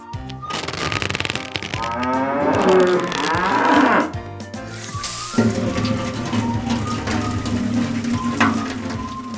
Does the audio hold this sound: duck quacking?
no